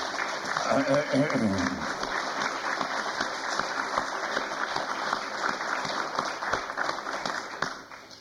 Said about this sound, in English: This has been a superb regional meeting. All our speakers panelists, moderators, I think, were just fabulous, and I would like to give them all a round of applause right now.